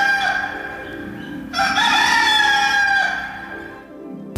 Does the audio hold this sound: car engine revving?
no